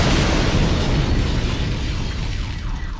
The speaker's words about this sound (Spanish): Pocos minutos después estallaba la bomba matando a 167 personas, entre ellas 19 niños, y dejando a su paso a 500 personas heridas.